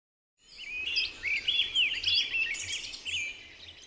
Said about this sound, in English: To human ears, bird songs are beautiful background noise.